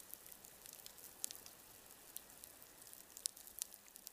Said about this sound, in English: This is the reef before seismic surveying, the sound of fish and shrimp feeding.